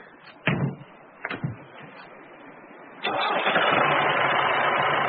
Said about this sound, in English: Time to start the tractor up.